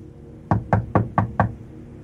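Five firm knocks by a landlord on an apartment door in Gnesta, Sweden, on 6 July 2005, in a quick, even rhythm and fairly loud, with a low wooden thud to each, then silence.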